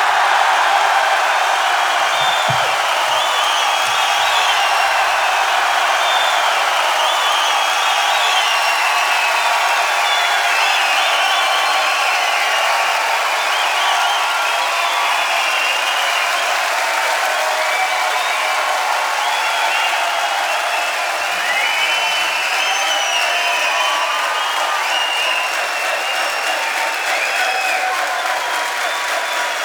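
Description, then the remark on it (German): A large crowd applauds and cheers continuously for a show's crew, a dense, steady roar of clapping with scattered shouts and whoops that holds at a loud level for the full half minute. “Haben mit Getose, mit Geschrei und allem drum und dran.”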